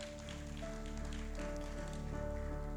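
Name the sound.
applause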